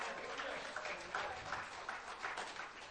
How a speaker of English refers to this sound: Why don't you give him a proper hand clap? Amen.